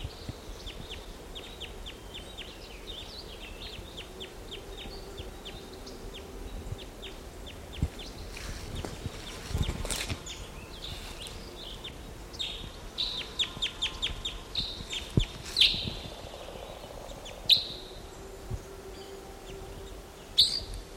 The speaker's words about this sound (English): There they go. No, they just flew to a nearby tree. Stop. Here's one of the birds.